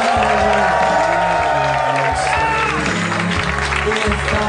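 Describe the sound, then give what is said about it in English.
A large live crowd at a Harmontown show applauds and cheers loudly and continuously as Dan Harmon is welcomed to the stage, with whoops rising above the steady clapping while music plays underneath. “Another big crowd.”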